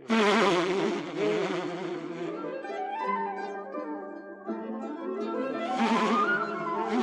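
A loud, steady swarm of bees buzzes continuously, a dense droning hum with wavering, rising and falling pitches, filling the whole stretch with no voices.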